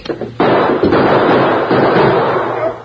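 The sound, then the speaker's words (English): A gunshot: a sudden, loud, harsh blast bursts in after a brief quiet moment, then a dense, noisy roar holds for about two seconds before tapering off. No one speaks. “Don't shoot again.”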